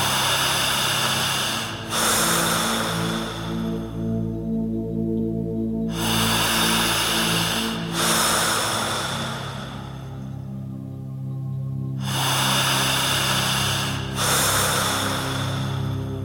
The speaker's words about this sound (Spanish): En tercer lugar, usted tendrá que respirar todo el tiempo de esta manera.